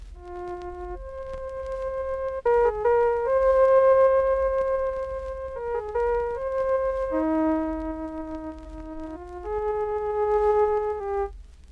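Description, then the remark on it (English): A slow melody of steady, pure synthesized electronic tones, each note held evenly with clean harmonics before stepping to the next pitch, played alone with no voices. “Let us synthesize a series of tones to make a melody like this.”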